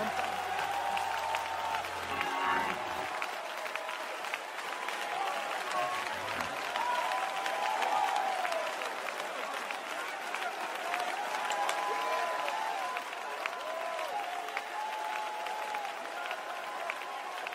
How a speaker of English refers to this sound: I wish everyone in this building would clap their hands with all their heart and lift up their voice for a moment.